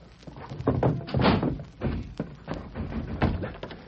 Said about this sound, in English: The door is bolted. I'll have to break it down.